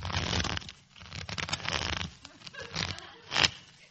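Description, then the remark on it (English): A deck of playing cards is shuffled for a card game in a few quick, papery riffling bursts, with a brief pause midway and a sharper flutter near the end. “Go ahead and shuffle.”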